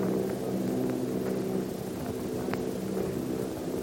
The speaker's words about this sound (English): The machines are close together now, and we're ready to attack. Plane circling, ready to strike.